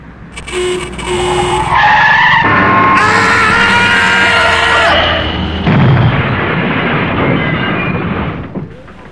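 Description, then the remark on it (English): A loud, drawn-out screech of tyres as a bus skids for several seconds, followed by a crunching, rumbling crash as it hits a person, fading out. No one speaks. “Am I covered for being hit by a bus?”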